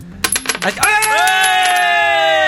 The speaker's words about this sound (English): And whenever you're right, ready, release the coin. Release the coin. Okay, here it goes.